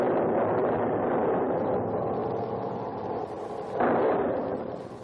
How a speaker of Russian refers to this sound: Черт возьми, принцесса, а ведь это не буря, 16-й калибр. Вы знаете, что это значит? Слышите орудие?